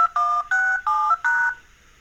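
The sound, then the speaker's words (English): A rapid series of four crisp phone keypad tones, each a short steady dual-pitch beep separated by brief gaps, loud, with no voices: a phone's automated dialing sequence dialing in and logging into a work voicemail system at Vision Australia. “automatically dial in and log into my voicemail at work.”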